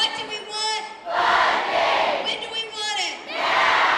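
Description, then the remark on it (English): A large crowd of teachers chants loudly in rhythmic bursts in the Oklahoma Capitol Rotunda in Oklahoma City, rallying for classroom funding. Voices swell together with short dips between phrases and a dense, echoing roar throughout, so loud the marble floors shake. “Starting about 9 o'clock in the morning, they fill the Capitol Rotunda and start chanting so loud, the marble floors of the building shake.”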